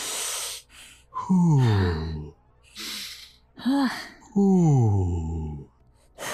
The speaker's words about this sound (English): I believe you are experiencing a panic attack. Follow my breathing.